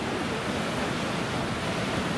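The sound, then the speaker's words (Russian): A steady, full wash of ocean surf, waves rolling onto the shore one after another, loud, with no distinct breaks between waves and no voices. “А там что делается? Одна за другой вот они накатывают.”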